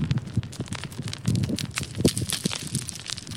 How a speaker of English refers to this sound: it's a lot of small rocks tumbling and sliding down to the shoreline beneath that bluff